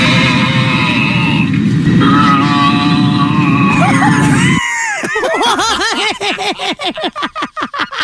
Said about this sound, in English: American Airlines flight had its intercom hacked by a person who grunted the entire trip